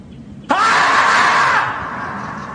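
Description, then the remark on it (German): A marmot gives a sudden, loud, sustained scream that bursts in and holds steady for about a second before trailing off, a single shrill alarm cry. “lustig war doch auch das Murmeltier. Quarantäne, 7. Tag, ne? Was dann so schreit.”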